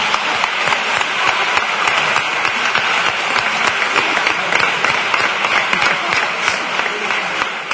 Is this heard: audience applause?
yes